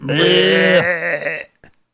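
A single loud sheep bleat, holding a long quavering note for about a second and a half before trailing off, followed by a brief soft knock.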